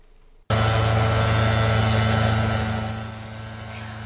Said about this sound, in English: You can hear it. East Bay crews powering up their chainsaws to cut tree branches tangled in power lines in Alameda.